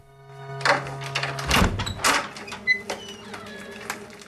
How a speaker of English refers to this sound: She opens the door and makes her way out onto the landing.